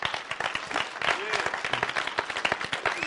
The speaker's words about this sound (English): If you're going to clap for God, clap better.